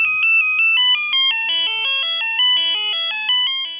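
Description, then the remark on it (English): A cell phone melody ringtone, the Furalese ringtone by sound designer Peter Drescher: quick, bright electronic notes hop up and down in a fast, bouncy tune, played steadily and fairly loud with no voices. “You may remember him from such hits as the Furalese ringtone.”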